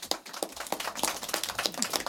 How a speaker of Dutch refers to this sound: Een applaus. Ja.